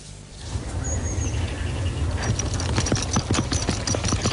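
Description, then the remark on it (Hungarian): Thoroughbred horses training at the Dunakeszi training centre: hooves clip-clop in a quick, uneven trotting rhythm, starting partway through and growing busier, with a steady low outdoor rumble underneath and a faint bird chirp early on. “Most még szabadon edzhetnek a telivérek a Dunakeszi Tréning Központban.”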